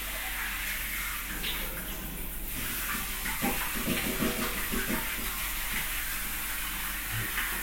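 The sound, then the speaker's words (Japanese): Shower water, being aimed at a person to wash them, sprays in a steady, continuous hiss that fills the whole clip, with faint low splashing and gurgling shifting underneath. “シャワー当てるよ。”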